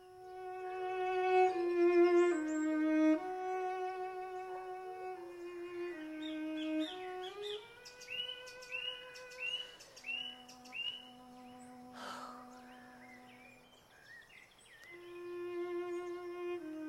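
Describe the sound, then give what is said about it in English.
A nightingale sings in the Surrey woods, England, in May 1924, in a BBC broadcast, in short repeated chirping phrases over slow, sustained notes from a bowed string instrument, the birdsong mostly light and secondary to the low melodic line. “On Monday, in the Surrey Woods, the BBC will make an effort to broadcast the Nightingale to all parts of the country.”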